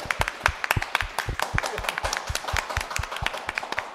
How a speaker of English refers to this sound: This is where I expect some round of applause, please, from the audience.